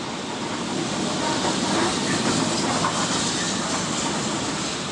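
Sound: train running on rails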